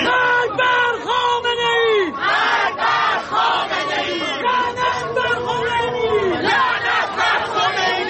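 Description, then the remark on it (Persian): A large crowd of thousands of protesters, opponents of the regime, shouts and chants slogans in loud, rhythmic unison while marching in Paris from Place de la Bastille to the central city hall, many voices rising and falling together in repeated bursts, with a steady roar of voices filling the background. “هزاران تن در حالی که شعار می‌دادند و نمادهایی از مهسا و دیگر جان باختگان اعتراضات را در دست یا بر سر داشتند، از میدان باستیل تا شهرداری مرکزی پاریس راه پیمایی کردند.”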